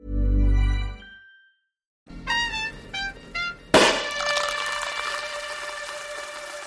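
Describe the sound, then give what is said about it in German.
A Sekt sparkling wine cork squeaks in short creaking bursts, then pops out with a sharp bang, followed by a steady fizzing hiss. A low rumble and a brief silence come before it. “Apropos Korken. Wir haben einen ganz tollen Sekt dabei”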